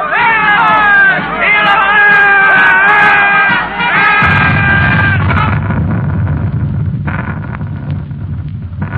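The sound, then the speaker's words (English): A large crowd cheers soldiers marching by, shouting loudly in a continuous roar of many overlapping voices, with high excited calls at first giving way to a lower, rumbling swell of noise. “The crowd cheering.”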